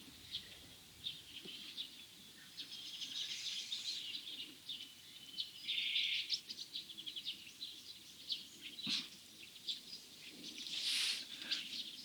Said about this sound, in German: Ich lasse kurz Pause, denn wir hören einen wunderbaren Vogel im Hintergrund. Den können wir einfach klingen lassen.